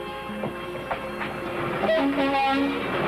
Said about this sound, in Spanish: La vista se le pierde a lo lejos, entre las líneas, y un tren pasa frente a ella, pero Nereida continúa allí.